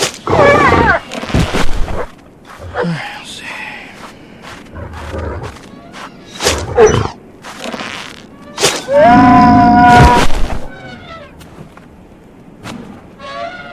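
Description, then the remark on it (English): Large elephant-like creatures roar several times, loud, with harsh trumpeting bellows separated by heavy thuds and booming impacts. “Yeah, take these stupid elephant things out with fire.”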